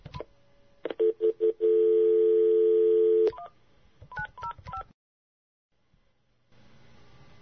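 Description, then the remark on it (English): A quick burst of touch-tone keypad beeps, then a long steady tone, followed by another rapid string of dialing tones before the line goes quiet and faint hiss returns, as a phone call is placed to a guest. “I guess we should go ahead and get Blackjack on the phone.”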